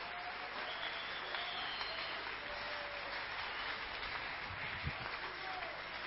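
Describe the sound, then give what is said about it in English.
A church audience claps their hands for Jesus at the end of a Bible sermon, a steady, dense wash of applause that holds at an even level for several seconds, with faint murmuring voices underneath. “If you understand anything I've spoken today, can you clap your hand for Jesus?”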